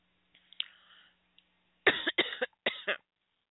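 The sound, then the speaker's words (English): A soft breathy throat sound, then three harsh, loud coughs in quick succession from a person coming down with a cold, with no talking. “So excuse me if I sound funny or if I cough.”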